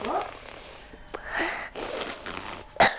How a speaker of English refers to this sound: Oh me, a cough. A bad cough.